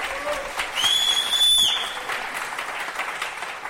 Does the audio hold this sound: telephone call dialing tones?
no